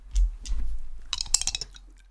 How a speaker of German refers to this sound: Hört man sie eigentlich klopfen, die Würfel? Man hört das wunderschön.